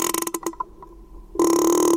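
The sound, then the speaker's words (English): A young female whale, swimming up to people in the water, makes a call that creaks like a door hinge: a few short rasping pulses, a pause with a faint low tone, then a loud, sustained creaking groan that holds steady to the end. “She made a sound like a creaking door hinge. It's one of the ways whales communicate and socialize.”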